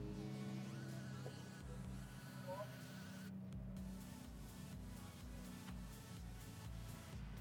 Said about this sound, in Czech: Mocné burácení motoru je snad jediné to, co je slyšet z cíle rychlostní zkoušky.